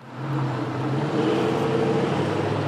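traffic

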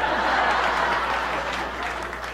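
audience clapping

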